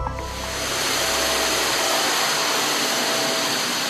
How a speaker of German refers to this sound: Wo jetzt der Staubsauger über den leeren, nackten Boden fährt, da wurde bis vor kurzem noch Kaffee und selbstgebackener Kuchen serviert. Im Café Düsselmeier, Grünberger Straße 84 in Berlin-Friedrichshain.